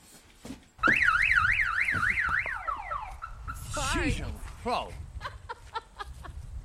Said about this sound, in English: What, in case someone steals it? When was the last time you heard an alarm up here?